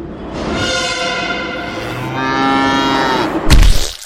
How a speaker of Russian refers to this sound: Метрополитен сбивает корову на баррикадной.